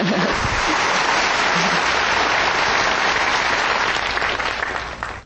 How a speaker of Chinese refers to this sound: 大家给屏东的同修啊，热烈鼓掌一下。